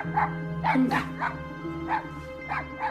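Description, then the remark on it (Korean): A small dog barks repeatedly in short, yappy bursts, about six barks spaced unevenly over a few seconds, with a steady low hum underneath. “강아지 키우는 거야?”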